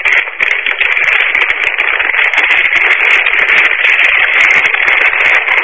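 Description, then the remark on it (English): Loud, continuous crinkling and crackling, like a potato chip bag being crumpled, with a dense rustling texture that never lets up and no voices. “You sound like you're crumpling up a potato chip bag or something.”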